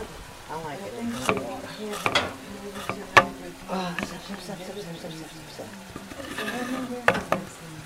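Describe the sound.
Onions sizzle steadily as they fry in butter in a pan while a utensil scrapes and clicks against it a few times, with a voice talking faintly over the cooking.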